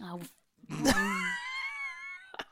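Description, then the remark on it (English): A person lets out one loud, drawn-out scream in a living room, a strained wail lasting over a second, preceded by a brief vocal sound and ending with a short breathy burst. “So if I want to scream in my living room, I'll have a scream.”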